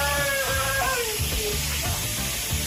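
Water runs steadily from a tap as a dog's water dish is washed, a continuous hiss filling the whole clip, while a voice makes brief drawn-out vocal sounds over it.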